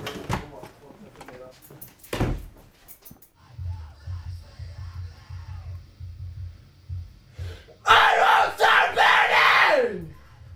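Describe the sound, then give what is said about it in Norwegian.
A group of people shout and scream together in a loud, raw burst of several seconds near the end, after a stretch of low rumbling and a few sharp knocks. “Så de bare beinskriker.”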